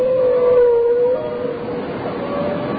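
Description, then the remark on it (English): A long, moaning whale call holds a steady pitch, dips slightly, then fades into a hissy, muffled underwater-like background. No one speaks. “Hello, whale. How are you? I am fine, thank you. Can you relate to me the secret of life, Mr. Whale?”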